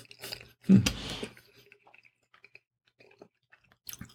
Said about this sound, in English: A little cold, but delicious. And it's going to take... It was a big bite, so it's going to take me a minute to chew this up.